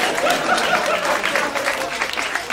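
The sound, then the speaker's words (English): An audience claps steadily for a couple of seconds, a dense, even patter of many hands with faint murmuring voices mixed in. “You don't have to clap.”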